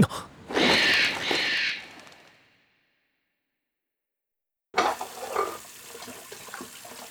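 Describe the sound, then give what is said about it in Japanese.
A tap runs while dishes are being washed, in a loud, steady hiss of water for about two seconds, then shuts off into silence; after a pause, softer splashing and dish clatter resume. No voices. “食器洗い終わったら寝ようかな。”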